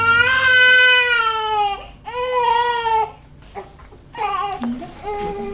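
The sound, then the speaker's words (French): A newborn baby wails in long, strained bursts, two sustained cries followed by shorter, broken sobs with brief gasping pauses between them. “Donc c'est sûr que des fois, il peut avoir des pleurs, parce que quand on a les deux matrices chacune, on ne peut pas non plus”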